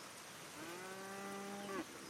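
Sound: cows mooing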